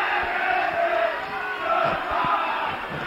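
A large crowd booing in a continuous, dense roar of many voices that swells and eases a few times, with drawn-out vocal tones and no clear speech.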